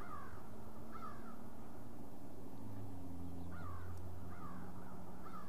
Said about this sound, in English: We can hear some birds, of course.